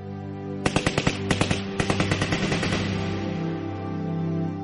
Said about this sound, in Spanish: De repente, los prisioneros vieron cómo sus captores los colocaban frente a las ametralladoras y abrían fuego.